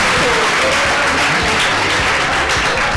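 Steady, loud applause from an audience, dense overlapping claps forming a continuous wash of noise for the full three seconds, with faint voices mixed underneath.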